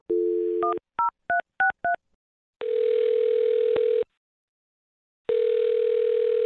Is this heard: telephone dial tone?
yes